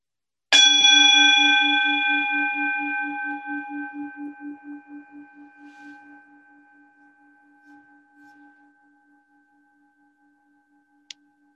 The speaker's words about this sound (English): when you hear the sound of the gong strike, just let go.